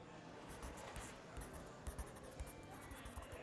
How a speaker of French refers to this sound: Tu m'attends, tu m'écris ton numéro d'assurance sociale sur cette feuille. Tiens, mon stylo.